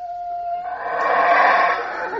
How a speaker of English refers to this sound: Those are howler monkeys in a tropical forest in Belize.